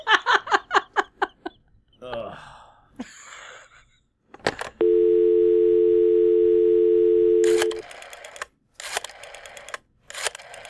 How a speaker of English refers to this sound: Standard rotary dial. Wait, is this back in time as well? Well, it's only the old phones that can reach the afterlife, yeah.